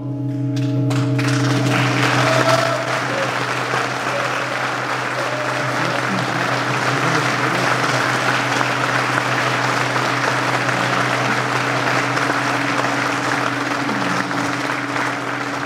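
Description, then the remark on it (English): Sustained applause from a large crowd fills a church, dense steady clapping over a low, droning organ tone that holds beneath it throughout, as the crowd celebrates a new pipe tuned to D natural just installed in the church organ. “After the applause, the crowd broke up and people walked around the church.”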